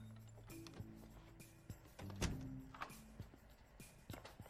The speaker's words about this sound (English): She turns and closes the door.